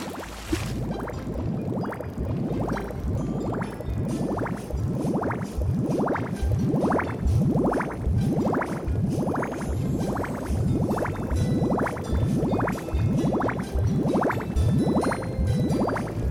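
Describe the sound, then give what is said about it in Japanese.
Steady, rhythmic bubbling water sound effect from a side-scrolling video game set among ice floes with polar bears, repeating rising bloops about every second, loud, with a continuous watery wash underneath and no voices. “あれ、これただの泡ってだけ。”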